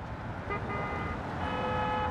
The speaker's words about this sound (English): If you place yourself on any street in Manhattan, there's always this underlying whoosh of traffic, which, if you are sensitive to sound, you'll probably pick up on pretty quickly.